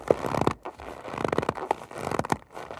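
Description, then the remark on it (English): A bag of cornstarch is squeezed and scrunched to create a snow crunch sound effect, making squeaky, gritty crunches like snow underfoot, in three quick bursts separated by short pauses, with no talking. “To get a really good crunch, they'll scrunch up a bag of cornstarch.”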